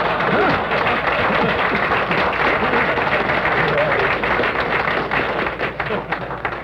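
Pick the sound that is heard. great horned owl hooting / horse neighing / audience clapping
audience clapping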